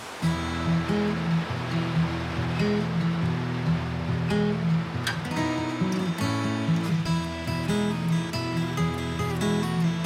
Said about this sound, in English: rushing river and it's absolutely freezing